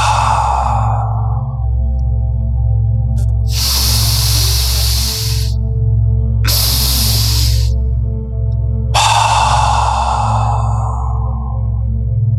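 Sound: slow deep breathing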